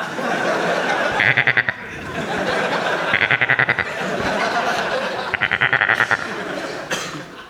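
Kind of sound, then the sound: animal, goat bleating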